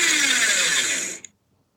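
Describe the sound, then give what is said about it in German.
A newly bought paper shredder (document shredder) whirs loudly and steadily for about a second, with a high grinding buzz and a falling motor tone, then cuts off abruptly with a small click. “Es ist ein Papierzerhäcksler.”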